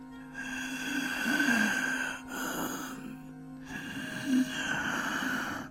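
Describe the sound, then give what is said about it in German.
A voice performs the loud, heavy breathing of a grandfather who breathes very loudly, with two long rasping breaths separated by a short pause, noisy, with no words spoken. “Und einem Großvater, der sehr laut atmet.”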